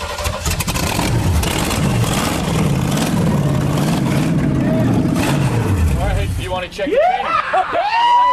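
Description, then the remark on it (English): A car engine turns over and catches, then revs up and down loudly for several seconds before excited voices break out over its idle. “The mules have made quite a comeback, but if that engine doesn't start, they're off to the knacker's yard.”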